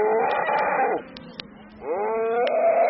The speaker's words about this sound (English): Your next steak or burger probably started out life on a ranch similar to this one in southeast Oregon's Harney County. And before these cattle can be let out to graze on summer range, the young animals have to be branded, castrated, and vaccinated.